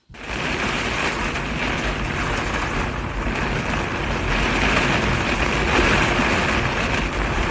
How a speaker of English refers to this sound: The sounds of high winds and rain as the outer edge of Hurricane Milton has already made its presence felt along a coastline only recently ravaged by the deadly Hurricane Helene.